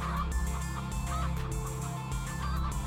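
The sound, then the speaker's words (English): A chicken clucks in a run of short, repeated bursts over a steady, dense background, with no one talking. “you're a beautiful chicken.”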